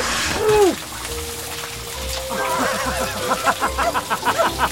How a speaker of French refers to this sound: C'est la meilleure douche que j'ai jamais prise.